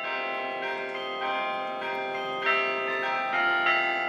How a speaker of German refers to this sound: Auf dem Weg von der Siegessäule zum Lager der Extinction Rebellion-Bewegung am Kanzleramt läutet der Carillon. Das Glockenspiel lässt deutsche Volkslieder ertönen, unüberhörbar für die 1000 Aktivisten, die hier kampieren.